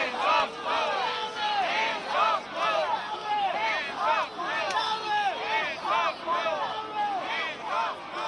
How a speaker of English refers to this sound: Several hundred demonstrators gathered Thursday in New York's Times Square, chanting slogans including "Hands off Mueller" and "Nobody's above the law."